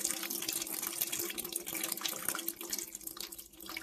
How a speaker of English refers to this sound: No, it is not. This is the Guadalquivir River.